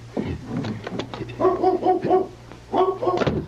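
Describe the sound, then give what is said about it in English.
A dog barks in quick, high-pitched yips, first a rapid run of four or five, then a shorter burst after a pause, over a low steady hum. “That's a dog. Back here somewhere.”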